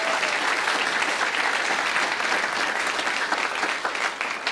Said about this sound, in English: That's great. Yeah, give Mike a big round of applause.